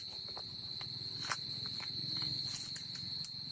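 A few soft footsteps land at an unhurried, uneven pace over a steady, shrill insect drone and low outdoor hum. Nobody speaks.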